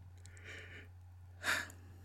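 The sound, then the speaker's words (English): A single yawn: a soft, drawn-out breathy intake followed by a brief, louder airy exhale, with no talking around it. “I'm sorry for yawning, y'all.”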